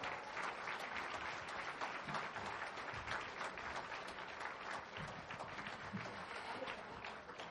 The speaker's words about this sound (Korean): 네, 다시 한번 큰 박수 부탁드릴게요.